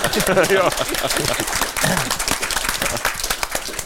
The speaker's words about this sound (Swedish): Jättebra fråga. Mm. Tack ska du ha. Applåder.